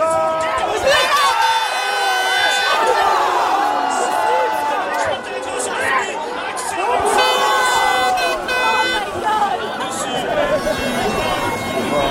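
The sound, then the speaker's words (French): At the end of a Belgium World Cup match, a loud stadium crowd roars and applauds the Red Devils' performance steadily, with horns and shrill whistles tooting over the continuous din. “Mais quand même, le public applaudit la prestation des Diables pour tout le mondial, quoi qu'il arrive.”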